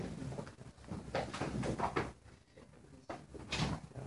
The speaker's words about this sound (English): Okay, open the door maybe. Good day. Just to have the air from outside.